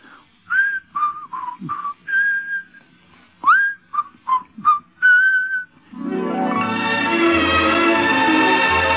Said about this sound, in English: Well, to make a long story short, it really was the whistling hit of the show, because people did go out of the theater whistling.